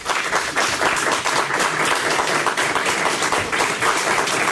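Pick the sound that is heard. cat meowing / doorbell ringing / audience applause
audience applause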